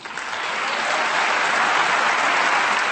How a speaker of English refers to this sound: was greeted by thunderous applause by foreign dignitaries and journalists gathered at the Paris headquarters of the United Nations Educational, Scientific, and Cultural Organization to celebrate the agency's latest member.